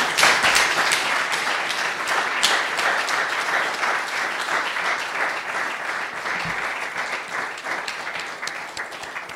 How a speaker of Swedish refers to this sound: Min broder, välkommen till familjen. Ska vi applådera och välkomna oss?